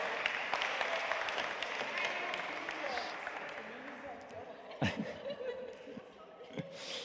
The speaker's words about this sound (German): Applaus für